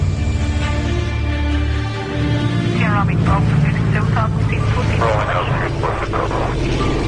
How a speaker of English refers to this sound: Justin, and Corey in the CL-215 water bomber